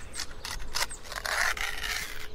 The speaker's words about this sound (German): Ein echtes Sonntagsgeräusch mal bitte. Ich esse am Wochenende immer so Brot mit Nutella. Und wenn es noch nicht angebraucht wurde, ist da noch so eine Alu-Schicht drüber. Und die muss man erstmal noch aufmachen. Dieses Geräusch liebe ich.